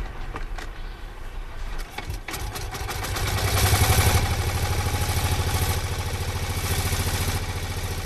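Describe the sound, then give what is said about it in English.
The early single-cylinder engine of a 1901 de Dion Bouton car, primed with petrol, clatters and sputters, then catches and settles into a loud, steady, rapid chugging idle with a mechanical rattle, with no voices, as the car sets off on the first Gordon Bennett commemoration rally. “Ozzie Bennett, setting off on his 1901 de Dion Bouton.”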